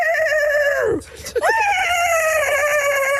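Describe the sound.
A human voice imitates a horse's whinny: a loud, wavering high-pitched call that dips, breaks briefly, then rises again into a sustained quivering tone.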